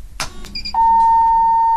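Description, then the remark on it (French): A city bus on the Stan network in Nancy, France emits a sustained, steady electronic beep at a single mid-high pitch, loud and unbroken for about a second, preceded by a brief clatter and short two-tone chirps over low rumble. “On le laisse bipper.”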